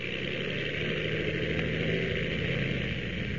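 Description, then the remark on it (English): The engine of the Ottawa plane drones as it takes off: a steady, unbroken roar with a low rumbling hum and a hissing upper edge, holding the same loudness throughout with no voices. “As our last episode ended, the Ottawa plane was just taking off when...”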